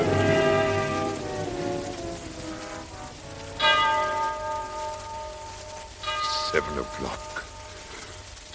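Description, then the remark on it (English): A clock bell strikes seven o'clock in slow, evenly spaced strikes, each deep, resonant stroke ringing out and fading into a long humming decay over a soft background hiss. “Seven o'clock. Less than an hour to go.”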